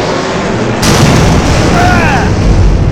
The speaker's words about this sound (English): Before Jason can finish the sentence, the Dragon Zord aims its missiles at the White Tiger. What the? It's aiming at the Tiger Zord! And fires.